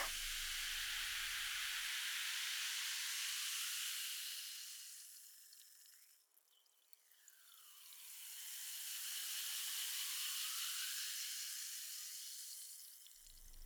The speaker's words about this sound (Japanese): それじゃあとりあえず乾杯しよ。はーい、魔法のシュワシュワ。